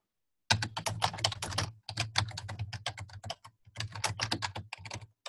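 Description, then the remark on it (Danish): Rapid typing on a computer keyboard, a dense run of quick clicking keystrokes in bursts with brief pauses, clear with no talking. “Man kan indtaste en beskrivelse.”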